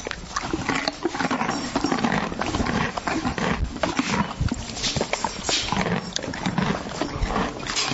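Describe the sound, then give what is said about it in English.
Continuous crunching and munching as a horse eats carrots, with dense irregular bites, wet grinding and a few heavy breaths filling the whole stretch. No voices. “It is actually a horse. And what's the horse doing? Yeah, it's eating.”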